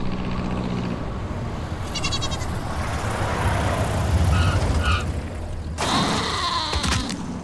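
A goat bleats a few times in short wavering cries as a man in a pinstripe suit runs after it just as a plane is landing, heard over a loud, steady roar of rumbling noise, with a sharper burst of sound near the end.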